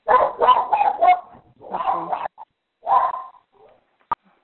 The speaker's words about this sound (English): Okay, there's somebody whose dog's barking. I'm going to just ask you to mute yourself.